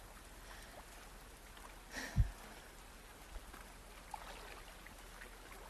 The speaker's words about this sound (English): He found the source. The overflowing washing machine, Water pouring over the machine onto the bathroom floor, out the bathroom, into the office, the guest room flowing through the living room